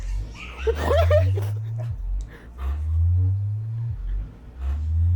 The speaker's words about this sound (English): What the fuck is vibrating? It's the damn speaker. Oh, I thought it's it was making the re- it's the making the metal something. Resonate in the tub.